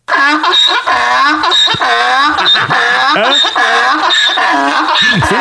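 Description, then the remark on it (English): A donkey brays loudly, a continuous run of harsh, wheezing hee-haw calls that rise and fall again and again for several seconds. “I play real donkey?”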